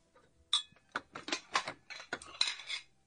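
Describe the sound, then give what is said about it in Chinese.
Bowls and chopsticks clink and clatter together as they're gathered up after a meal for washing, an irregular run of sharp ceramic and wooden knocks, moderately loud with no talking. “哎呦，这么多碗筷可真沉呐。”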